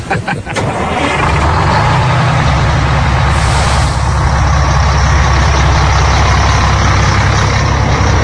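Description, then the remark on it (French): A large tour bus engine idles with a steady, heavy low rumble, broken near the start and again briefly by short airy hisses like an air brake releasing, at the source of the Jordan River in the Holy Land. No one speaks. “Time to go back to the bus.”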